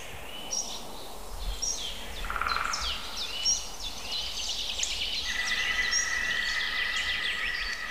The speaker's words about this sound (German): Grünspecht dreht völlig frei.